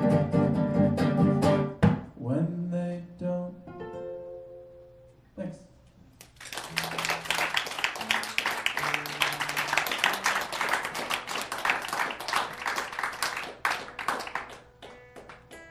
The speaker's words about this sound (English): That extended clapping.